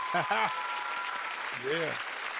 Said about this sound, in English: we need to just go on clap for everybody out there who's in business today. I'm going to put a hand out for everybody. Y'all put your hand for the small business owners.